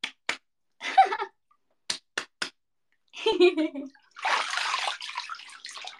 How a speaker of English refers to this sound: Here, I'll slap my armpit too.